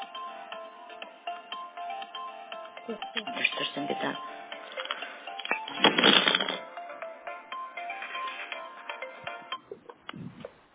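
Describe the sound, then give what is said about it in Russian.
A melodic mobile phone ringtone, an incoming call from the boss, plays steadily for several seconds, its tones repeating, while a person speaks briefly over it with some shuffling and handling noise. “Подожди, пожалуйста, меня сотовый от начальства.”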